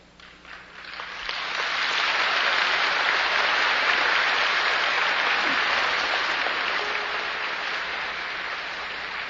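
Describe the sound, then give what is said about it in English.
An audience of young people and parents bursts into sustained applause, swelling within the first couple of seconds and holding steady as a dense, continuous clatter of many hands clapping, with no voices standing out. “I can't tell whether that's young people applauding or the parents.”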